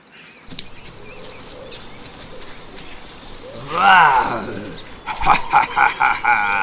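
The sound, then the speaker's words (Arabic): A lion walking alone in the forest lets out one loud, rumbling roar midway through, set against a soft, steady forest ambience. A busier burst of higher animal calls follows near the end. “يحكى أن في يوم من الأيام كان هناك أسد يسير في الغابة وحيدا.”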